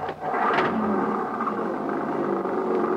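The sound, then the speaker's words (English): An old jeep's engine drones steadily over a rough road, with a few brief clunks and rattles breaking through the continuous, fairly loud rumble. No one speaks. “Mac's old Jeep would have put a mountain goat to shame”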